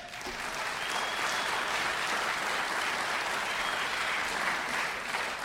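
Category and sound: crowd, audience applause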